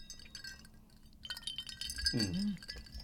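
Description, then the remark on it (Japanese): Glasses clink together in a toast, several bright chimes ringing out and lingering, with a short murmured vocal sound from someone nearby partway through. “はい、今夜も乾杯しましょう。 はい、乾杯。”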